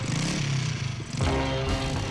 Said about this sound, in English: And the Foley in it as well, having the motorbike sounds. It's all yes. it's all quite theatrical, really, isn't it?